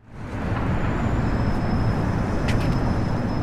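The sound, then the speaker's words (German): Steady, dense roar of vehicle traffic rolling across a cantilevered bridge over the Elbe, a traffic hub in the centre of Ústí nad Labem: a continuous low rumble with a faint high tonal whine and a couple of brief clanks, no voices. “Die Brücke führt freitragend über die Elbe, ein Verkehrsknotenpunkt mitten im Zentrum von Ústí nad Labem mit deutschem Namen Aussich.”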